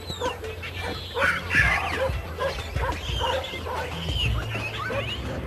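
A pack of feral dogs at Taif barking and yipping over one another in a continuous, overlapping chorus, moderately loud, with some whimpering mixed in and a steady low rumble underneath.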